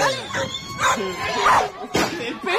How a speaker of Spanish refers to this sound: Perro. Es el perrito que está ahí acá en el estudio.